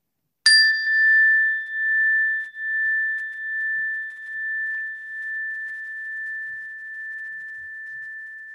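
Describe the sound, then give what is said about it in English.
A single meditation chime is struck once and rings out clearly, its bright tone lingering and slowly fading with a gentle wavering pulse over several seconds, with no voices. “And then letting the sound of the chimes take us into the next few moments of your life.”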